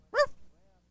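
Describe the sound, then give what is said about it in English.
One short, sharp bark from Dutch the dog rings out, fairly quiet, then fades into low background hum with no one talking. “Get Dutch's barking if you listen real close.”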